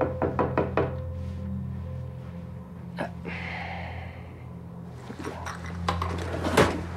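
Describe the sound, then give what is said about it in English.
A rapid series of sharp knocks on a door as Gretchen arrives and Noah answers it, five or so in quick succession, followed by a lone rap and then another scattered burst of knocking over a low steady hum. “Noah answers the door to Gretchen.”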